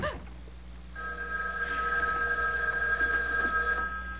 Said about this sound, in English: It was the house phone. Not my private line with the unlisted number. Only two people ever knew that number.